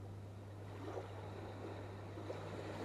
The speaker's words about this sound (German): Du hörst die Meereswellen rauschen und holst noch einmal tief Luft und riechst die Meeresluft.